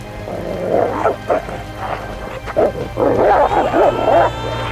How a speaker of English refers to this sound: The thugs heard it too and turned around just in time to see a massive dog bounding for them, teeth snarling. "Get it off us! Call off your wolf dog, priest!"